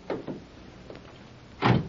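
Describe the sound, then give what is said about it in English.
A few light clicks and rattles, then a single solid thump as a police radio car door shuts. Fairly quiet overall, with no talking. “Here's the radio car. Won't take a minute to check your story. All right, get in.”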